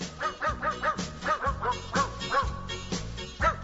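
Dogs bark in a rapid, rhythmic string of short yips and woofs, their pitches arranged to carry a bouncy song melody over a steady musical backing.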